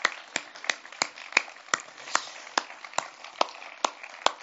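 An audience claps along in a steady, even rhythm, roughly a dozen sharp, crisp claps standing out over a softer bed of scattered hand noise, with no talking.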